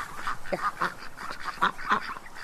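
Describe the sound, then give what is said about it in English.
Several ducks in the water quack in a busy, overlapping chorus as they are about to be fed, with harsh nasal calls repeating every fraction of a second at a steady moderate loudness and no talking. “are going to go up and feed the duckies.”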